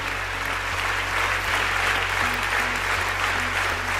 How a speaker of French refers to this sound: Pour l'adoption, 780. Contre, 72. 1 minute 30 ininterrompue d'applaudissements, d'émotions, de soulagement pour certaines.